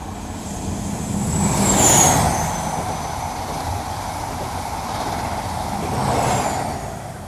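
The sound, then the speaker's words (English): A train on the Great Western Main Line rumbles steadily along the tracks on a crisp February morning. The roar swells twice as it passes, with thin metallic squeals riding above the low clatter. No voices. “We stepped off the train into the melee on the platforms.”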